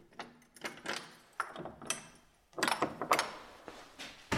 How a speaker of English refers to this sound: Perfect, that was the key in the door.